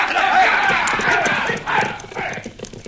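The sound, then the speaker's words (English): Several horses' hooves clip-clop in a busy, uneven patter as the animals shift and step about while a group of riders mount them, with indistinct voices mingling underneath. “All right, boys, get up on your horses.”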